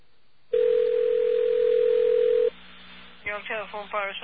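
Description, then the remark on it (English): A steady, loud telephone dial tone on the BAI phone system, calling a New York telephone operator, hums for about two seconds, then cuts off abruptly; after a short pause a voice begins speaking over the line. “Hopefully the BAI phone system will connect us to a New York telephone operator.”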